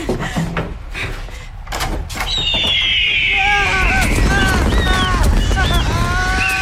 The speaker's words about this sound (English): We're going to open that door. Don't you try and stop us.